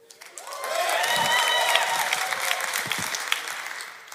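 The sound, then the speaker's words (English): The parents in a church audience at Echo erupt in loud cheering and clapping, with high whoops and shouts rising over a steady wash of applause that swells quickly and holds for several seconds. “All the parents here in Echo, make some noise.”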